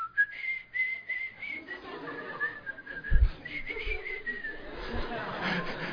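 Someone whistles a continuous, wavering melody at moderate volume, the notes sliding up and down, with a low murmur of background noise and occasional soft thumps underneath.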